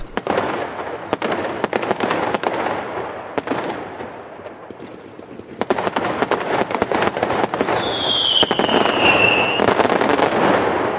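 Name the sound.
firecrackers exploding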